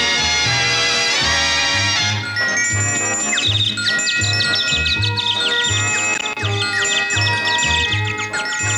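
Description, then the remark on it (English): A bright, loud WNDE radio station morning jingle with a steady pulsing beat, layered with high chirping, tweeting Tweety Bird-style cartoon bird effects that trill and twitter above the music throughout. “I'm sure the hokey Tweety Birds didn't help.”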